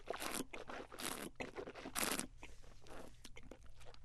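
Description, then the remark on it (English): Wet mouth noises of whiskey being swished around during a tasting, a series of gurgling, crackly bursts repeating unevenly over several seconds with no talking. “Yeah, as you can see, I was swishing mine, so I apologize to all the listeners that got a little scared there.”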